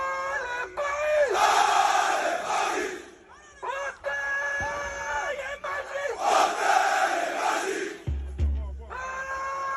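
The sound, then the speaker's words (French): A large crowd of Paris Saint-Germain football ultras chants loudly in unison, voices rising and falling in sustained rhythmic phrases with brief pauses between bursts, a low thump near the end. “Les supporters, les ultras du Paris Saint-Germain, ils donnent de la voix, c'est pas toujours très chantant, mais en tout cas...”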